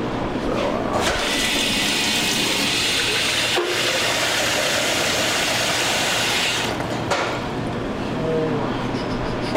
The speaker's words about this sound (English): First things first, let's shred a potato into some cold water and let's rinse the starch off a little bit. Let it sit for 10 minutes.